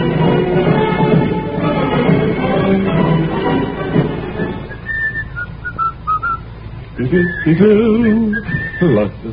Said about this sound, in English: Every now and then we take a survey to see how many people are whistling marches on the street.